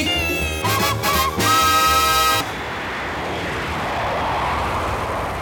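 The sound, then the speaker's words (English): A few bright, horn-like chord blasts give way to a loud, sustained jet aircraft roar that rushes in as broad whooshing noise and holds steady to the end. No speech. Part of a WABC station jingle from Pams' custom package Series 27, The Jet Set, made at the end of 1963. “Yes, jet travel was still a bit of a novelty in those days, and this package combined an all-male vocal group singing in unison with sound effects and everything they could think of to add action to the station's sound.”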